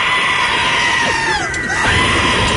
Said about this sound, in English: You hear that? It's the same. It's the same note. That's the goat. This is the goat.